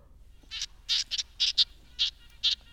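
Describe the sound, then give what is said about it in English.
A red-breasted nuthatch gives a series of short, nasal, tinny 'yank' notes, about seven in an uneven rhythm, some in quick pairs, high-pitched and fairly clear against a quiet background. “Sounds like a nuthatch. Is it red-breasted nuthatch? Yes, that's right.”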